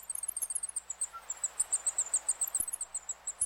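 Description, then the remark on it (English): A zebra finch heat call, made by a parent sitting on its eggs when temperatures rise above 84 degrees: a rapid, steady series of very high, thin chirps repeating several times a second, fairly soft and with no voices. “Researchers noticed that zebra finches make a special high-pitched call, called a heat call, when sitting on their eggs and temperatures rise above 84 degrees.”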